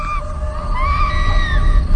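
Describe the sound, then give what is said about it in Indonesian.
A woman's hysterical scream, high-pitched and wavering, sounds thin, drawn out over about two seconds above a steady low rumbling background noise. “Teriakan histeris seorang perempuan.”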